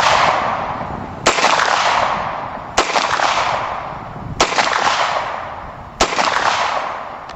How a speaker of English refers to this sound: This is actual audio of a 9mm Beretta, first without a silencer and then with a silencer.